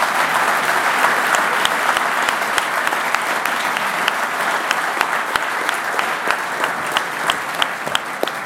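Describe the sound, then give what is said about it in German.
A live audience applauds steadily at a Swiss Venture Club event after an interview with a young Swiss entrepreneur, a dense wash of many hands clapping fairly loud, sustained for several seconds without any talking. “Gründerin und Verwaltungsratspräsidentin und eine der erfolgreichsten Jungunternehmerinnen der Schweiz, hier vor Live-Publikum.”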